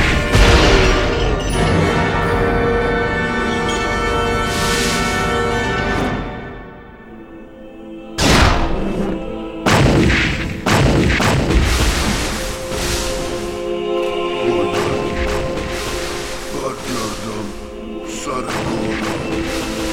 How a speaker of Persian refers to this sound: منتظر دستوری. تیر اول آماده است. شلیک کنید. آره خورد به هدف.